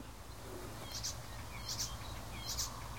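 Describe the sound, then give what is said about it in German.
Bird song with elements of a warbler (Grasmücke) and a blackbird (Amsel): three short, high, chirpy bursts at roughly even intervals, fairly soft, over a steady low background rumble. No one speaks. “Da sind auf jeden Fall in meinen Ohren auf jeden Fall Elemente der Grasmücke, Menschgrasmücke mit verbaut gewesen, eben nach diesem Amselähnlichen.”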